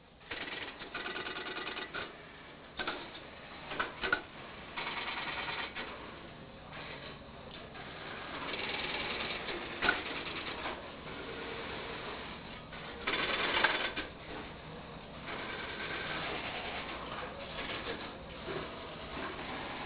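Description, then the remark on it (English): Dense mechanical clatter of an all-mechanical telephone switch, relays and selectors clicking and ratcheting in rapid, irregular bursts, steady throughout with no talking. “The telephone technicians truly loved this mechanism.”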